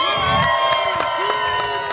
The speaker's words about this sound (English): Let's hear you, everybody out here at 50 West, a little noise for us tonight.